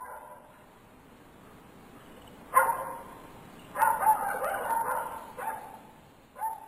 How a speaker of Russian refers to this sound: Громкий лай Сиры прервал ее сон.